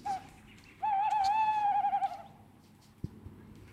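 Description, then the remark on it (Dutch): A bird gives a soft winter call: a brief note, then a sustained, slightly wavering whistle lasting over a second, clear, followed by quiet and a faint click. “Komt van vroege vogels, hè? Ik wou het net zeggen. Ja. Zit het goede programma wel? Of is het gewoon een zachte winterroep?”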